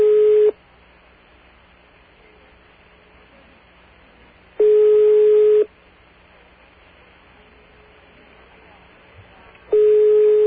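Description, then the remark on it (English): A telephone line ringing with no answer on a call placed by an operator: a steady mid-pitched ringback tone sounds in about one-second bursts, three in all, each separated by roughly four seconds of faint line hiss. “No doubt they're too busy over there to deal with things like phones ringing.”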